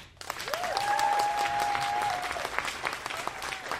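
An audience breaks into steady, dense applause lasting several seconds as a vote by show of applause for the best tornado in a game, with a long, high whistle ringing out over the clapping in the first half.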